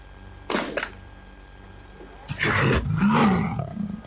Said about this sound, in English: Oh, my favorite killer cop movie is RoboCop. Because Ed 209 is a freaking killer. That's true. And stop motion animated by Phil Tippett. And it sounds like a lion. Lion roaring. Elephant.